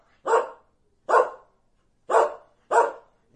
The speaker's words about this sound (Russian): Услышал вдалеке лай. Лай, лай, ла-ла-ла-ла-ла-ла-лай. Не тот лай, собачий лай.